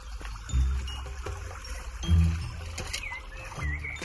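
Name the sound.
water being fetched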